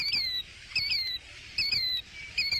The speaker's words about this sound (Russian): Интересно, кто это? Пойду посмотрю. Ах, вот кто это! Незнакомая мне птица. Здравствуй, птица! Я тебя увидала. Скажи, это ты сейчас кричала?